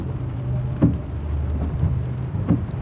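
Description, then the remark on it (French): Sudden steady rain hisses continuously at night as a car drives through a forest at 30 km/h with its windshield wipers running, alongside a low, droning rumble, with a couple of soft thuds breaking through about every second and a half. No one speaks. “Soudain, il se mit à pleuvoir.”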